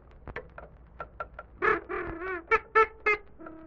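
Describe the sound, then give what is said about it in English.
A duck being offered corn to eat quacks repeatedly: a few soft, clipped quacks first, then a run of louder, nasal, drawn-out quacks in an uneven rhythm, with no talking. “Happy Duck, are you hungry? Well, here's some nice corn for you to eat.”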